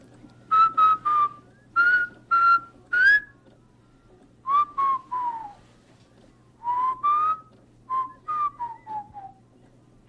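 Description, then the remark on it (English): Someone whistles a simple tune in short, clear phrases, notes sliding up and down with brief pauses between groups, fairly loud with no talking. “Marching and sleeping whistling both.”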